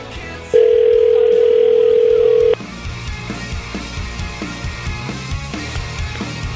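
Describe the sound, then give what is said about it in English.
A single loud, steady telephone ringback tone of an outgoing call, holding for about two seconds before cutting off, then a quieter murmur of background noise with no talking. “Let's call Mr. Daverly”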